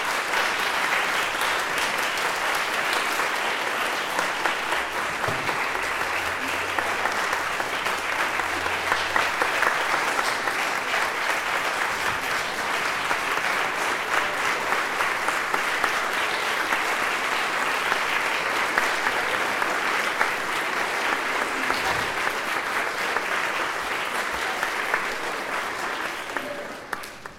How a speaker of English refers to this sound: And I would like us all to give them a wonderful round of applause.